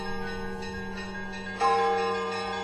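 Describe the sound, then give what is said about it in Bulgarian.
Church bells ring with long, sustained overlapping tones, and a fresh strike lands partway through, adding brighter humming partials that slowly fade. No voices are present. “Сигурно е така, камбаните.”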